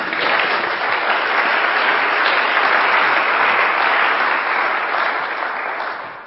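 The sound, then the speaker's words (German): Sustained audience applause fills the whole stretch, a dense, steady patter of many hands clapping at an even loudness before tapering slightly at the end. “jetzt darf für dir, vielen Dank, Applaus.”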